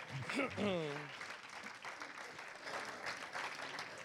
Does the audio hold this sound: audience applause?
yes